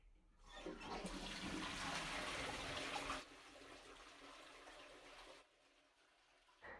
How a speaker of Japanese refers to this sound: トイレを流します。